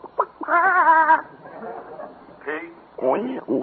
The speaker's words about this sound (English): Just an ordinary farm. Have a few chickens.